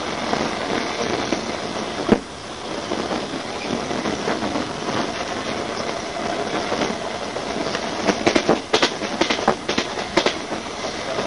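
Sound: moving train interior rumble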